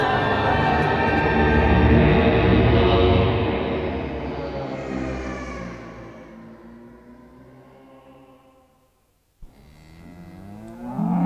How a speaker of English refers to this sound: How long those cows going to go unmilked?